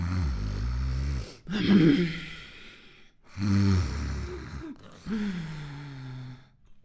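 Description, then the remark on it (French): A voice imitates an old, pustule-covered toad snoring: three drawn-out, croaky snores with breathy rasping inhales between them, fairly loud, with no words spoken. “Le vieux crapaud plein de pustules ne répond pas. Il ronfle.”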